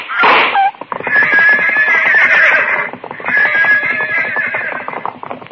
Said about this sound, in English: The pack horses reared at the shot.